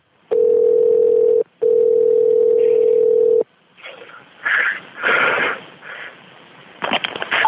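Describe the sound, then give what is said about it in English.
A steady telephone dial tone hums in two long unbroken stretches with a brief gap, loud over the line, before an emergency call to a fire department, then gives way to muffled rustling and breathy noise. “On the phone.”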